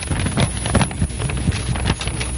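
Two sheets of paper held in the hands and flapped together, producing steady, rhythmic papery bursts that almost resemble trotting hoofbeats, with no talking.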